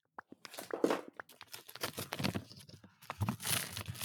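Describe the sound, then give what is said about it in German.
Paper packaging is torn open, with a few sharp snaps at first, then a run of crisp ripping and crinkling bursts, ending in a louder, sustained tear. “Was aufmachen, warte mal.”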